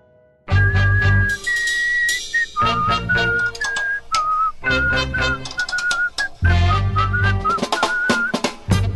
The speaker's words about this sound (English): Here, whistle it with me.